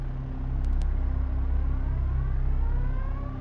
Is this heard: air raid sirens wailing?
yes